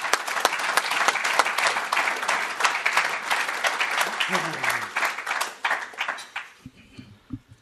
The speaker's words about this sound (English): This is the man that has led this men's ministry and made it what it is. So let's give him a real round of a good round of applause.